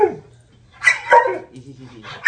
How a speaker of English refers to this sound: It's a dog that wanted a treat.